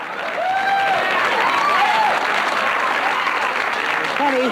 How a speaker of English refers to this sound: So when the lights come up and the Newhart audience is sitting in those seats and they see the Bob Newhart Show set, you get a little bit of laughter. Honey. And then you get applause.